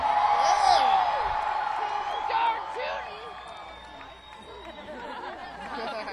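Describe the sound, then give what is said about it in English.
A rowdy live audience in Chicago fills the air with loud, overlapping chatter, scattered whoops and cheers, a steady roar of many voices with sharp shouts rising above it throughout. “got us a rowdy crowd in Chicago tonight.”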